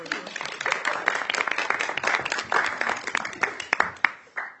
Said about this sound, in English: Thank you for bringing him up. We may clap.